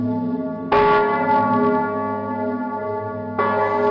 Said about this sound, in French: Décembre 1956, Uruf, 392 âmes, 40 km au sud-ouest de Nancy. Dans ce village, cette nuit-là, les cloches sonnent.